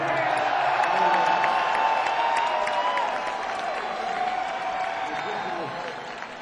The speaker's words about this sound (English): Okay. Can we get one more round of applause for … real quick?